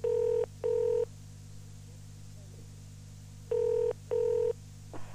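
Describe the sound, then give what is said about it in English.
A telephone ringing tone heard down the line when calling a sales department office phone: two double-pulse rings, a pause between them, over a low steady electrical hum, with a faint click at the end. “Hello, sales department, Diana Wong's phone.”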